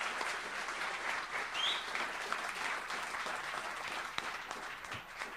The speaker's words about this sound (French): Donc merci d'avoir un petit applaudissement aussi pour les partenaires.